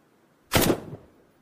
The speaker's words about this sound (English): Take, for example, the sound of a gunshot, which the original sound is less than half a second long.